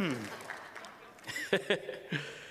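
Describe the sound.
A crowd claps in a steady, dense patter of applause for a couple of seconds, with a few voices and brief chuckles rising over the clapping.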